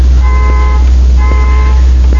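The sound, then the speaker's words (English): A car horn honks twice, each blast a steady, fairly loud half-second tone with a short gap between, over a constant low rumble like an idling engine or traffic. “Does anybody have a car with a horn like that?”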